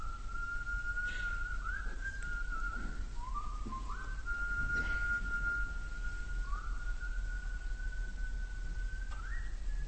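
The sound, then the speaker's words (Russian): A young man whistles a slow, simple melody on stage at the start of a dance performance, and a second young man picks up the whistling. The pure tone holds long notes and steps between pitches, heard clearly over a steady hiss of background noise. “Один начинает насвистывать мелодию, а другой зримо как бы перехватывает и подхватывает этот свист, перенимает его изо рта в рот и продолжает.”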